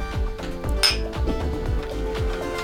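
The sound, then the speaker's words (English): Glasses of Thompson whiskey clink together in a toast, one bright ringing chime rising over a steady, thumping low beat that pulses throughout. “Don't know if you heard everyone, but we're making clinking sounds with glasses.”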